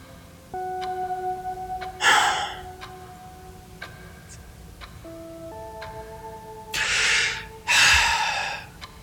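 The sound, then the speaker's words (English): A clock ticks slowly and steadily, its faint clicks running under a low sustained tone and several loud breathy gasps; no one speaks. “You guys have a clock?”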